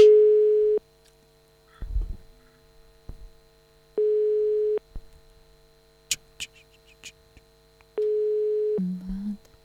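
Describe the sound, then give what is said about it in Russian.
A telephone busy signal sounds three times, steady mid-pitched tones lasting about a second each, repeating at regular intervals with faint clicks and rustling in the gaps between. “Гудки.”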